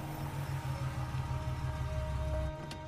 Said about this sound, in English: car pulls to a stop in front of a store.